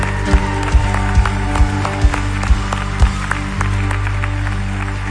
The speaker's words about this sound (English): And you know what? You know, the people that were standing up and, I mean, clapping is awesome. This is bigger than the Super Bowl.